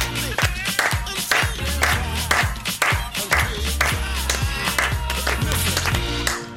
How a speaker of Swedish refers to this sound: Jag gör gärna det om ni klappar med.